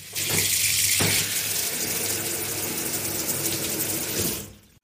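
Water runs steadily from a shower in a dense, hissing rush, fairly loud, continuing for several seconds before fading out at the end. No one speaks.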